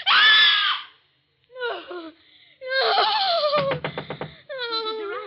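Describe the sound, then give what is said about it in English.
A woman screams in terror from a nightmare, loud, in several shrill, wavering bursts broken by short gasps, with a shuddering, stuttering cry near the end. “Why were you screaming?”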